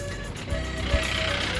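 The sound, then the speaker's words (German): A jeep's engine rumbles steadily as it overtakes and pushes past, a low continuous motor noise that swells briefly at one moment, with faint tonal whines over the road sound. “Ein Jeep drängelt uns beiseite.”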